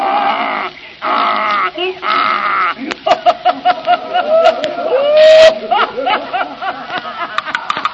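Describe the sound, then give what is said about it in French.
A man's voice imitates a donkey's bray in loud, harsh, see-sawing bursts, then breaks into choppy, pulsing laughter-like noises that carry on to the end. “on vous a pas demandé de faire l'âne ni de nous montrer que vous saviez rire.”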